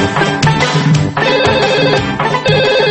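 A telephone rings with a bright, melodic electronic tone, repeating in steady bursts of layered musical notes. It plays loudly and continuously with no voices.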